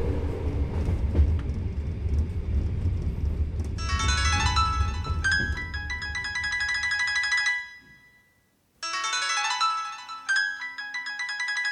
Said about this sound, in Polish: Jak dobrze, że nikt nowy nie wszedł do przedziału. Boż, jeszcze 4 godziny tego tłuczenia się.